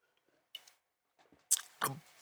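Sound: sipping a drink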